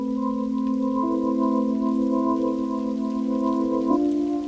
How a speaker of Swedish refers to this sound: Det är oväder. Man hör hur regnet piskar mot taket och det blåser så mycket att det känns som att träden ska gå av.